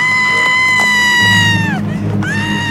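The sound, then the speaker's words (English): A woman in a film clip lets out a loud, piercing scream that holds steady, sags downward, then rises again into a second shriek, all over a low rumbling background din. “We have many of them, and they begin with a scream.”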